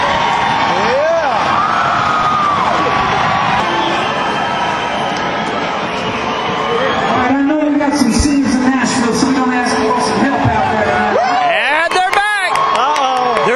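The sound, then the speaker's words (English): A rock concert crowd, on its feet, roars and cheers continuously, a dense wall of loud shouting with scattered high whoops and yells rising above the din, steady throughout, wanting more at the show. “they're going crazy. They're all on their feet, and they can't get enough”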